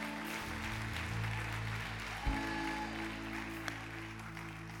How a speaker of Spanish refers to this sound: Vamos, démosle el mejor aplauso.